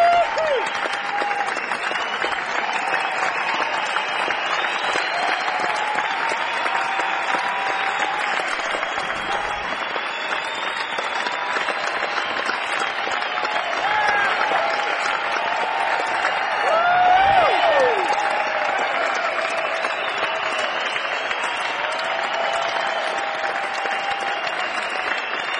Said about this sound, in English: Walk back off stage now. Looks like they're going to try to get a little more applause out of us before doing another number.